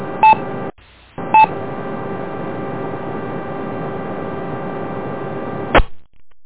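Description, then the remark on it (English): A telephone rings in two short electronic bursts over a steady buzzing background hum, followed by a sharp click before the noise cuts out. “I wouldn't be coming right back here, and I got a phone call”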